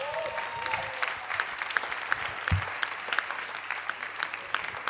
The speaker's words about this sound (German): Wenn das euer einziges Problem ist, habt ihr keins, das ist gut. Applaus für euch.